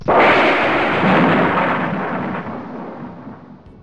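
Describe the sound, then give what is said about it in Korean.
A loud crack of thunder bursts in and rolls on as a broad, rumbling roar, slowly fading over a few seconds with no voices present. “그때 갑자기 천둥 소리가 들리더니 집과 여인이 순식간에 사라져버리고”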